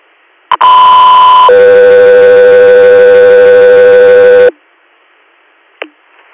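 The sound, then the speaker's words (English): A loud two-tone radio dispatch paging alert for Echo 3 Air: a steady high tone for about a second drops straight into a longer, lower tone lasting around three seconds, with short radio clicks before and after. “Echo 3 Air, stand by for tones.”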